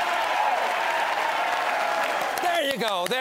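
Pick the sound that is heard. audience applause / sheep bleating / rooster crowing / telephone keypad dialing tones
audience applause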